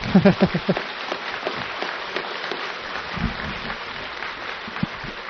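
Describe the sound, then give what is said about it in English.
An audience at the end of an evening talk claps in a dense, steady wash of applause that holds at an even level throughout, with a few brief vocal sounds at the start and around the middle. “If you're going to clap, clap with everything you've got.”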